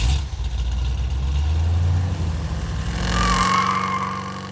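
A car engine rumbles at a steady idle, then revs up loudly with a rising whine as the vehicle pulls away.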